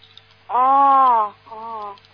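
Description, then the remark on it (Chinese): A duck quacks twice: one long, drawn-out nasal call followed by a shorter one after a brief pause, fairly loud over a low steady hum. “那什么鸭子在叫啊？”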